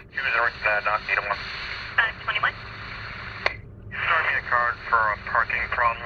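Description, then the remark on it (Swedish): Police radio chatter heard in a car: tinny, band-limited voices speaking in short bursts over a steady hiss of static, broken by a sharp click and a brief pause midway before the talking resumes. “Han sitter tyst en lång stund och lyssnar koncentrerat på polisradion.”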